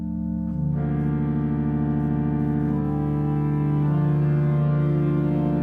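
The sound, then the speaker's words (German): A new pipe organ built by the Kleis firm of Bonn plays in a concert hall, sustained chords swelling fuller and richer as the organist adds more and more stops, rising from a quiet start to a loud, resonant wall of sound with no voices. “Und Thomas Cornelius greift in die Tasten, schaltet immer mehr Register dazu.”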